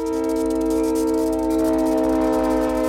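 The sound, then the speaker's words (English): A loud, sustained train horn blares in one continuous chord-like blast, with a low rail rumble underneath and no voices, as a train approaches a street-grade crossing without gates in Ann Arbor. “Every train's horn sounds more than 160 times round-trip through the city.”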